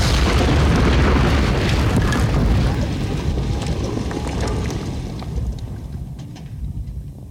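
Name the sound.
artillery shell explosion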